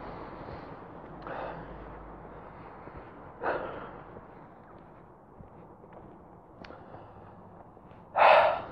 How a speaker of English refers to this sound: Guess one thing you can hear without the cars is my breathing.